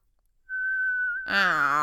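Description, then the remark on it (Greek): A person imitates a small bird snoring like birdsong: a steady, high whistled note holds for under a second, then breaks into a louder, buzzy, wavering voiced trill. “Άκου, ροχαλίζει. Ακόμα και το ροχαλιτό του μοιάζει με κελάιδισμα.”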